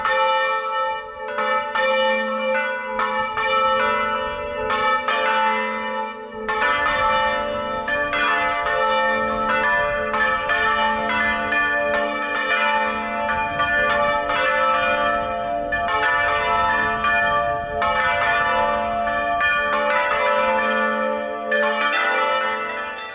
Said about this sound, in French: Allez, on écoute une dernière fois, c'est pas du carillon, c'est les fameuses cloches en volée tournante de l'église Saint-Rémy de Lagarde dans le Lauragais.